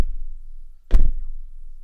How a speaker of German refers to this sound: Ich stampfe sanft auf.